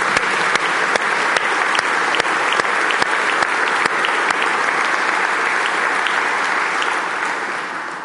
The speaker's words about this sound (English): Let's give Brad a round of applause.